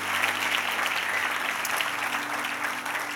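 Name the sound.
audience applause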